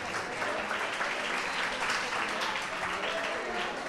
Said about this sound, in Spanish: Un aplauso, muy bien.